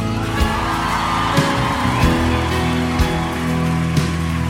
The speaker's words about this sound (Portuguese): Amém? Pode aplaudir Jesus.